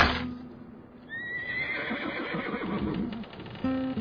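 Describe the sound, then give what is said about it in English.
A horse, Altivo, lets out a single high, wavering whinny that trails down into snorting breaths, fairly loud over a low background rumble, with no talking. “Miguel, you're talking to a horse.”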